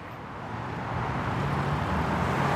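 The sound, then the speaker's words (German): Steady city street traffic on Ludwigstraße in Munich, a broad low rumble of passing cars and heavier vehicles, growing slightly louder over a few seconds, with no voices. “Baustellenlärm, Verkehr, Menschen sitzen in den Außenbereichen der Cafés, Radfahrer zischen vorbei.”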